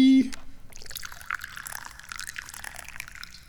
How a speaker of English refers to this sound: And speaking of tea, we have to pour some tea right now, because I'm thirsty.